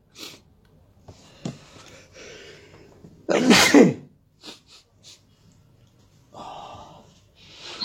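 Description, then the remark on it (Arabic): One loud, sharp sneeze bursts out near the middle, surrounded by quieter breathy sniffs and shuffling noises before and after. “يرحمكم الله، يهديكم الله ويصلح بالكم.”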